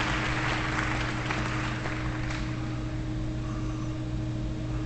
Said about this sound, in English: Do you think those people were clapping because they enjoyed the music?